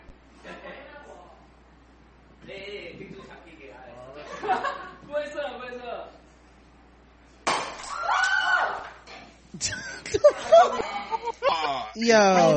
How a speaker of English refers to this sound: and the whole bottle crumbles, y'all, like literally crumbles in their hands. Guarantee you glass shoots everywhere.